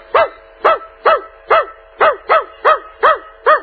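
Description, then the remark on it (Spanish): A person imitates a dog barking: nine loud, evenly spaced barks in quick succession, with brief silences between them and no other talk. “Ahora, cuando el perro ladra mucho sin detenerse, adelante.”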